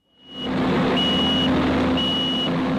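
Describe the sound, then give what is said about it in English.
In Fort Myers, Florida, during hurricane recovery, heavy machinery of the Florida Air National Guard clears storm debris, moving wreckage into piles to clear the streets: a loud, steady engine rumble with a low hum, while a high-pitched reversing alarm sounds three evenly spaced beeps. No one speaks. “The sounds of hurricane recovery echoed around Fort Myers as the first heavy machinery got to work clearing storm debris.”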